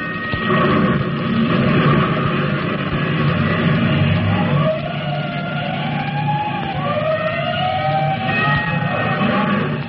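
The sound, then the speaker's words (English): A fire siren for a five-alarm fire wails with slow rising and falling sweeps, entering about halfway through and riding over a constant, heavy engine-like rumble. No one speaks. “Attention, all districts. A five-alarm fire. Five bells.”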